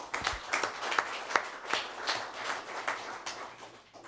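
An audience applauds steadily for about four seconds to thank John Maxwell of Health Administration for 5 years of service, a dense wash of overlapping hand claps with a few sharper individual claps standing out, moderately loud throughout and no one speaking.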